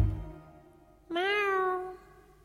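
A single drawn-out cat meow, clear, rising then sliding down in pitch over about a second, after a brief low thump and a moment of near quiet.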